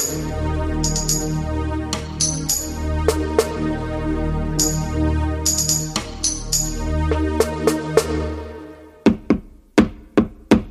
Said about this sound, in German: Wer trommelt denn so wild an meine Tür? Aufmachen! Aufmachen!